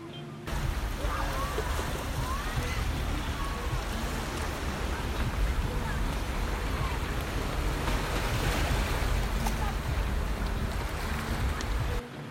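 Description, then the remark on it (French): Steady wash of sea waves rolling against the harbour front along the corniche at the port of Mina, a small town in northern Lebanon: a continuous broad roar with some wind buffeting, fairly loud, with faint chatter. “La corniche, c'est le livre des grandes histoires que nous inventons en observant les vagues.”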